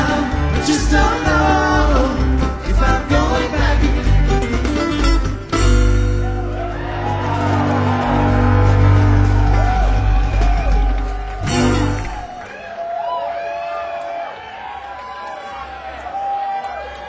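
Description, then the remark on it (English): A large concert crowd roars and cheers loudly with whoops and yells, music still ringing underneath at first, then the noise drops to scattered shouts and chatter. “Well, hey, you guys, what a crowd.”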